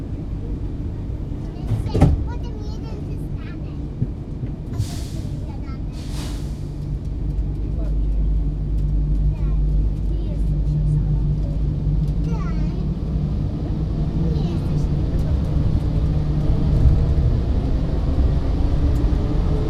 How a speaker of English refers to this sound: Please stand clear of the doors. Please hold tightly. This transit is departing for gates 20 to 39.